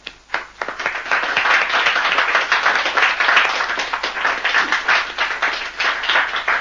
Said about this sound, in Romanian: L-a aplaudat însuși majestatea sa.